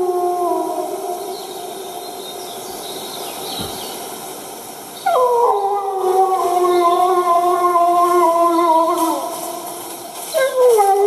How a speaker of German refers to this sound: Wieder Rotkehlchen singend, Wolf aus mittlerer Distanz. Da ist einer drauf. Viele Rotkehlchen singen.